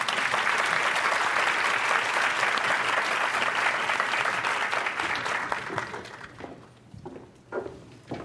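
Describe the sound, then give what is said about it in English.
Sustained audience applause, a dense wash of many hands clapping at full strength for about five seconds before thinning out into scattered claps and fading. “So one more round of applause for me.”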